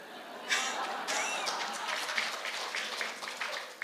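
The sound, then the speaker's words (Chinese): A small crowd claps steadily for a few seconds, a dense, crackling patter of many hands that stays fairly even throughout, heard alone without any voices. “这掌声来自男人还是女人？”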